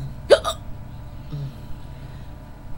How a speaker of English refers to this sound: But I can't due to these hiccups. Excuse me.